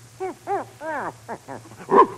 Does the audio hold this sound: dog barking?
yes